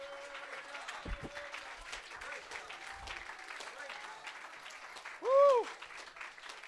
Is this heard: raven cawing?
no